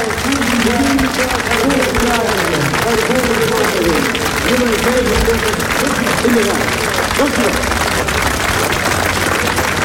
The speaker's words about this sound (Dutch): Voor al die teams. Het klopt. Groot applaus.